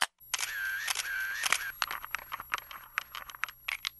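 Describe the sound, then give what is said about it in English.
A film camera's shutter clicks and the film winds on with a ratcheting whir, followed by a quick string of sharp mechanical clicks and snaps. No one speaks. “If you grew up listening to shutters clicking, film rolls advancing, backs of cameras closing, you might have vivid memories of those and other sounds connected with older technology that you don't often hear these days.”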